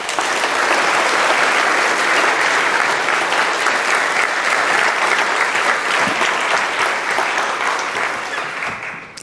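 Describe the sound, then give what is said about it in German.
Sustained audience applause welcoming a speaker to a lecture, a dense, steady wash of many hands clapping at full loudness for several seconds before gradually tapering off at the end. No one speaks over it. “Und deswegen einen herzlichen Applaus”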